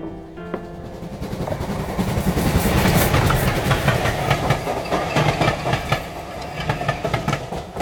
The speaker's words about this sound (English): Passing trains are a nuisance.